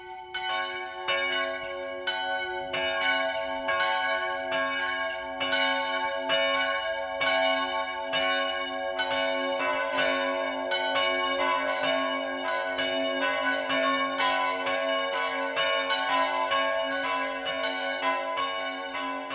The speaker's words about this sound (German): Es ist 12 Uhr. Das Mittagsläuten kommt heute von der katholischen Pfarrkirche St. Michael im oberbayerischen Sachrang.